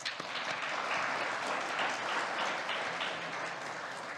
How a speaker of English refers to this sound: I think we need to give him another round of applause.